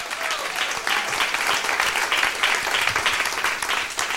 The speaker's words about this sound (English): Let's have a nice round of applause for my staff writers